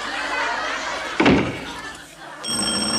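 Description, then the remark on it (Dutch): A heavy door thuds shut, and a moment later an electric doorbell starts ringing in a steady, shrill, continuous tone over a low background murmur of voices. “Weer die bel, daar word je toch gek van?”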